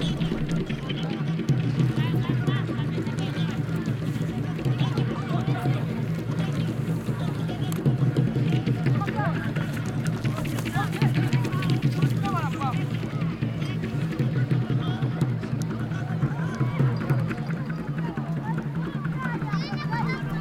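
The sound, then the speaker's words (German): A steady, dense wash of ambience in a stadium outside the centre of Lusaka: a constant low rumble under overlapping crowd voices and murmuring, holding an even loudness throughout with no single sound standing out. “Das ganze Stadion ist mit Klängen gefüllt. Und das Stadion klingt auch.”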